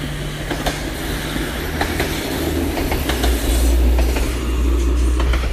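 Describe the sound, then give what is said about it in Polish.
A train rolls past on railway tracks near Jedlina, heading toward the mountains, passing under a footbridge that carries a red hiking trail over the tracks: a loud, steady low rumble punctuated by regular clickety-clack beats from the wheels, with no one speaking. “Mijam tory, Jedlina, czerwony szlak idzie takim fajnym mostkiem nad torami kolejowymi, a mija nas pociąg.”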